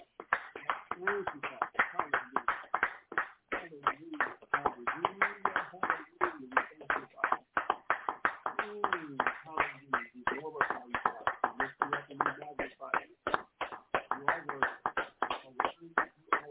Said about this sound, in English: Let us give the Most High a hand clap of praise on this evening. Hallelujah. Thank you, God.